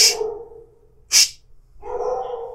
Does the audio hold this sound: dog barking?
yes